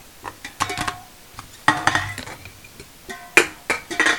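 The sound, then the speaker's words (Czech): Tin cans clink and rattle against each other in several irregular bursts, fairly loud, with bright metallic rings between quieter pauses and no one talking. “Kurva dráty, ty vole, tady všude plechovky.”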